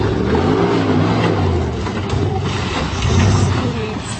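A loud, continuous engine roar with a deep rumble that rises and falls in pitch, like a customized 4x4 off-road vehicle revving hard in Capitol Forest while its oversized tires churn and spin in mud.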